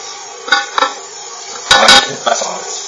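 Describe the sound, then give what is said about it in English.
A utensil scrapes and clinks against a pan, with a few sharp metallic knocks and a steady low sizzle underneath as leeks are stirred. A paper cartouche lining that sits on top of the leeks is lifted for the stirring. “And then just in between your 1 or 2 minutes, you want to just lift up the cartouche, sort of paper lining on top of the leeks, and just give them a little stir.”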